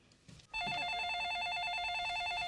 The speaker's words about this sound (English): … answers the phone.